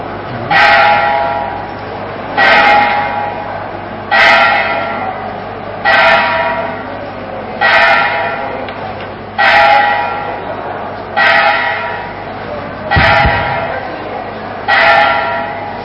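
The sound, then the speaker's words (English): A bell strikes nine times at 9 o'clock to mark the end of a class, in a slow, steady rhythm, each ringing tone swelling quickly and fading before the next, fairly loud. “That bell is a reminder that we've just timed this pretty well. 9 o'clock, the class is supposed to end, and I think I should get a lot of praise for coming so close like that.”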